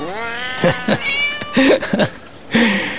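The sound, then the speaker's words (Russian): A cat meows insistently for its dinner several times in quick succession, its high, drawn-out cries loud, with a softer chirp and a final plaintive meow near the end. “Мои кошки тоже мечтают об ужине.”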